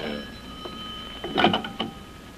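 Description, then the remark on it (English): A telephone out in the hall rings with a bright, rattling bell tone, a short burst near the middle and a weaker one after, with no one talking. “Wait till I answer the phone out in the hall here.”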